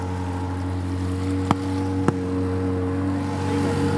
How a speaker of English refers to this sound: We just heard 2 shots